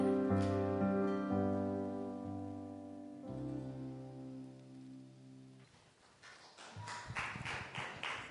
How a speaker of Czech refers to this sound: Není třeba tleskat, ale děkujem.